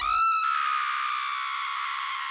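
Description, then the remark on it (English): A woman, just shaken awake, gives a loud, sustained scream, sharp and piercing at the start, then holding a high, strained pitch for a couple of seconds without a break. “Shauna's eyes flew open, and she screamed.”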